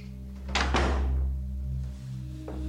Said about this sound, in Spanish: Cierra la puerta.